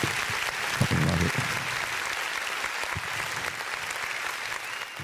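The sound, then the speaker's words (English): Steady applause from a crowd fills the whole stretch, dense and continuous hand clapping at a fairly even loudness, with a faint voice or two underneath. “Let's clap it up”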